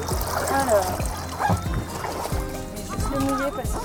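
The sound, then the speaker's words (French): Water splashes over a boat and sloshes in steady bursts while voices let out startled exclamations and gasps on top of it, all fairly loud. “Douche.”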